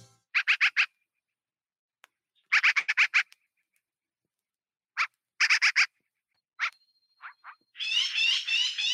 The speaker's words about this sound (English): And the first song is actually from an album, …. So everything you hear is birds. Page 118, American Crow.